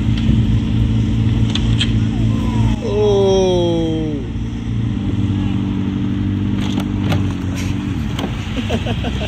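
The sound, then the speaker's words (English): A car engine idles with a steady low drone as the driver carefully maneuvers trying not to scratch the car, briefly revving up and down in pitch partway through, then settling back into a constant hum as the vehicle creeps along. “This guy was trying his best to not scratch his car.”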